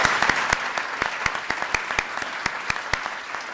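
A crowd applauds steadily, a dense wash of clapping with sharper individual claps popping out at irregular intervals, sustained at an even loudness throughout.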